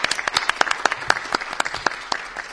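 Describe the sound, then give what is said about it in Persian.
An audience applauds with dense, rapid overlapping claps, a steady crackling burst of sharp hand-claps at moderate loudness with no voices on top. “به افتخارشون دست بزنید.”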